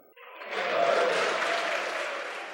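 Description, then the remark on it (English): Pennsylvania lawmakers break into applause and cheering at a remark by Governor Wolf, swelling quickly to a dense, steady roar of clapping that holds for a couple of seconds, fairly loud with no distinct voices. “Not everyone was cheering, but Republican Senator Mario Scavello of Monroe County took the jibe in stride.”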